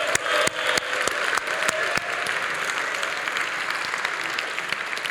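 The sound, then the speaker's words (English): A lecture audience in Cambridge applauds the course's teaching staff, a dense wash of many hands clapping at an even loudness with sharper individual claps popping out, continuing throughout without voices. “And so if we could, a huge round of applause for the entirety of the teaching staff.”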